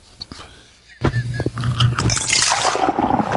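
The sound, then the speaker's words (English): Liquid is poured into a glass, a steady sloshing gurgle that starts after a brief quiet moment and grows brighter and fuller as the pour continues. “Pour me a little bit.”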